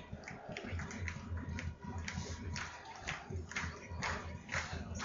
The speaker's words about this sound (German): Publikum direkt mit rhythmischen Klatschen.